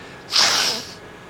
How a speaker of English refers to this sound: You know, once there was God took his bath in the morning, and he sneezed into a tissue paper.